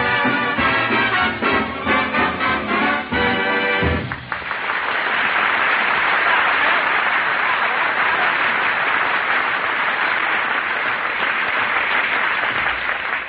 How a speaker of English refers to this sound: He even puts applause on the record.